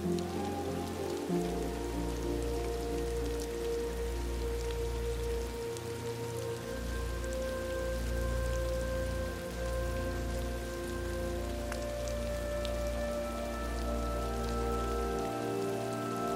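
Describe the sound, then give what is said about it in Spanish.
Steady rain patters on a surface throughout, a continuous soft hiss of drops, with low sustained musical tones humming underneath and no voices. “Como si la lluvia fuese la liberación de todo aquello cuanto has estado reteniendo en tu interior.”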